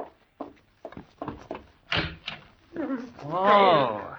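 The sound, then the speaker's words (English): A few soft footsteps approach, then a door is opened to let someone in, with a pair of solid clunks of the latch and wood, followed by a man starting to speak. “Go open the door.”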